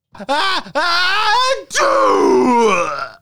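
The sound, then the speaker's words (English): A voice imitates a sneeze: two drawn-out, rising vocal gasps build up, then a longer, louder breathy burst follows, tapering off at the end. “I think I'm just going to do how about a sneeze?”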